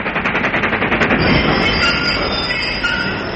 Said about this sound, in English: Listen, that's the Royal Mail chicken train, driven by Percy Edwards. We must follow.